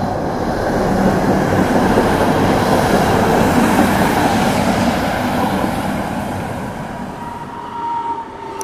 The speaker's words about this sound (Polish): Naszą podróż do centrum zaczynamy tramwajem marki Konstal.